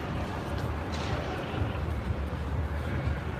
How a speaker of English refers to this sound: you gotta get the sound of this glass falling, man. It's trippy. It's like rain.